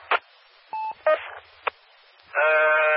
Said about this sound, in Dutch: Ik hoor de piep.